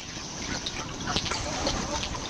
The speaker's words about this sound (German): Wir tauchen ein. Viel ruhiger ist das Unterwasser nicht. Da blubbern Gasblätterli.